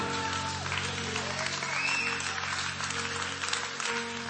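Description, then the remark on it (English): A church audience claps together for the Lord in a dense, steady wash of applause, with faint voices and a sustained low organ-like tone underneath. “Come on, give the Lord a hand clap if you believe that.”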